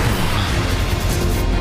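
A loud, close explosion roars through the whole moment, a dense crashing rumble with heavy low-end boom and no gaps or voices.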